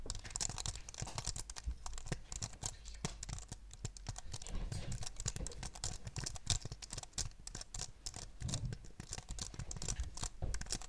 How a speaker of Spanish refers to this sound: Vale, os voy a hacer una ASMR de teclado. No sé cómo se hace esta mierda, pero bueno. Ahí os va.